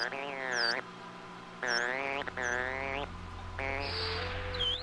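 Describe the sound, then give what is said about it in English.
Dolphin whistles and chirps in about four bursts, rich warbling tones that bend up and down with short upward chirps, clear over a steady low hum. “The scientists hoped to better distinguish between the sounds the animals make and to put human sound signals in a form the dolphin is more familiar with.”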